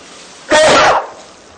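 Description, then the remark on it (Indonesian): A single loud sneeze bursts out, a sharp explosive blast lasting about half a second against a quiet background, with no talking. “Alhamdulillah.”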